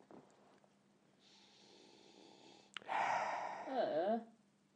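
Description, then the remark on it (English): Someone sniffs in through the nose to smell a beer: a long, soft nasal inhale, then a louder, harsher snorting draw of air ending with a brief squeaky tone. No one speaks. “I'm sniffing in, for pity's sake. I'm not sniffing out.”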